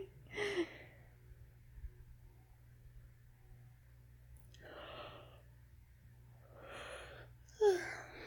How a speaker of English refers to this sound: Oh, you made me yawn too. You tired, baby?